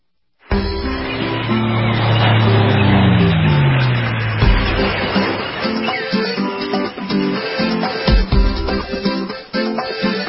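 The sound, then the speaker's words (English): A loud intro jingle for a beach and boating forecast segment, brought by Freedom Boat Club of Tampa Bay, bursts in abruptly, opening with a rumbling, engine-like roar and a falling low tone, then settling into steady tonal music with punchy beats. No one speaks. “But it is that time where we hear this music.”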